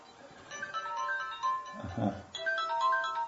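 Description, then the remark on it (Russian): A mobile phone that was not switched off rings with a bright, steady electronic melody of sustained high tones, moderately loud, with a brief low murmur of voice breaking in partway through before the tune carries on. “Извините, не выключил.”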